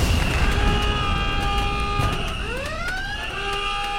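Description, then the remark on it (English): A loud siren-style 'best thing of 2016' sound-effect buzzer blares: steady layered horn tones, then a wailing pitch that sweeps upward and holds, over a rumbling noisy backdrop with no talking. “I think we need to press your best thing of 2016 buzzer.”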